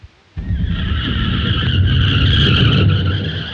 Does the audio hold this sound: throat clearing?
no